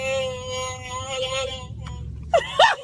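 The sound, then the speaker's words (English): A drawn-out electronic growl from a Chewbacca mask worn by a woman in her car, a buzzy, harmonic moan held for over a second, then short warbling yelps near the end, over a low car-interior rumble. “That's not me making that noise.”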